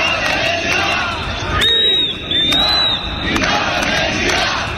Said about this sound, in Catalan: A Barcelona, la manifestació ha sortit des de la Via Laietana davant la comissaria de la policia espanyola.